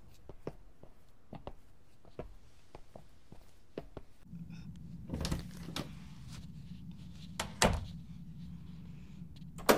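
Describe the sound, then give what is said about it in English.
Soft footsteps tap across a quiet room, then a door is handled and a lock clicks shut with a sharp metallic snap, followed by a low background hum. “You locked it. Subtle. That was it. That click is the verdict.”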